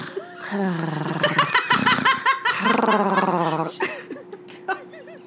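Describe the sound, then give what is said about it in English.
A person imitates Tanya passed out snoring with a run of rasping, throaty snorts and wavering voiced tones, rising and falling in a rough rhythm for several seconds with no words spoken. “I was just going to say, you know Tanya is passed out snoring like this.”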